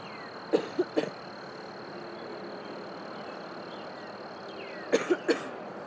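A person coughs in two short bursts of three, one near the start and one near the end, over a steady outdoor drone of insects and distant background noise.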